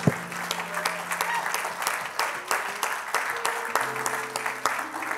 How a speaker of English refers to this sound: Let's clap our hands unto the Lord in Jesus' name.